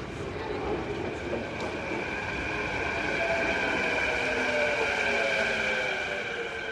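A Canada Line light rail train in Vancouver arrives at a station platform at 7 in the morning around the Winter Olympics. A steady roar of wheels on track carries high, sustained metallic whines and squeals layered over it, holding loud and even throughout.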